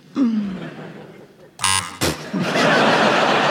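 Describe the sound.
A voice speaks briefly, then a short, harsh quiz buzzer blares for a fraction of a second, followed by a sharp burst and a swell of audience laughter and noise.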